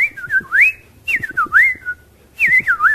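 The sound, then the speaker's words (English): A person whistles a sparrow call in three short, warbling phrases with brief pauses between them, clear with no talking. “What would a sparrow sound like, by the way?”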